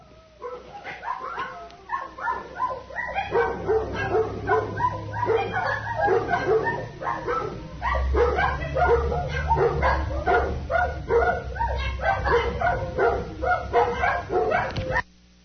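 Several dogs bark and yip in a dense, overlapping chorus for the whole stretch, with a few whining, drawn-out cries mixed in and a low rumble underneath; no one speaks.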